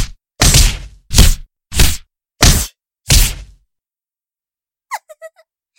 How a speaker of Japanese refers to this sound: でもそうやってると、ちょっと危ないかもですよ。だって、こんな風に、ノーガードでパンチを受けることになっちゃいますから。